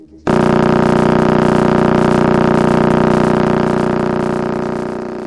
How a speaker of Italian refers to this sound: Il suono che ha aperto l'inedito Festival delle Stelle di Sedna è il segnale radio proveniente dalla Pulsar che si trova al centro della nebulosa del Granchio, distante circa 7000 anni luce dalla Terra.